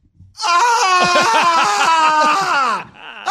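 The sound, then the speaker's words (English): A voice imitates a startled scream: one long, loud, wavering shriek lasting over two seconds, with a trembling pitch that slowly falls before cutting off abruptly. “I started like when screaming.”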